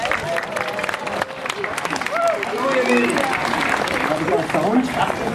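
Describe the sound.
A crowd of about 2200 people in Lützerath applauds a speaker from BUND, dense clapping blending with cheers and murmuring voices, holding a loud, even level throughout.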